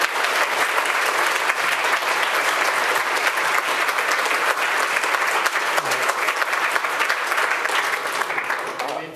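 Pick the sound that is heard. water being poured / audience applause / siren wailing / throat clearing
audience applause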